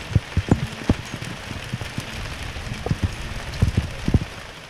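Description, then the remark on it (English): A 60-second hailstorm clatters on hard outdoor surfaces in scattered, irregular knocks and pings over a steady hiss of falling precipitation, moderately loud, with no voices. “A 60-second hailstorm once happened and it went like this.”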